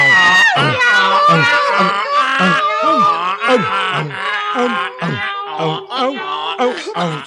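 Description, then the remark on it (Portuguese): Several voices loudly imitate a braying donkey, barking dog, meowing cat and crowing rooster all singing at once in a choir rehearsal, a clashing, overlapping animal chorus that carries on for several seconds. “Cantar não é gritar, afinal. Mas vá lá, vá lá. Para a primeira vez não foi assim tão mal.”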